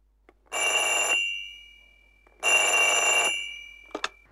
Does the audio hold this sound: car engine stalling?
no